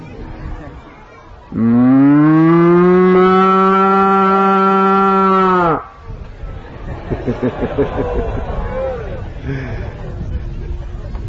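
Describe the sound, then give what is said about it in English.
A cow lets out one long, loud, full-throated moo lasting about four seconds, followed by a low murmur of people chattering in the background. “Which type of group? Cows group. And what are those cows doing? Rambamana.”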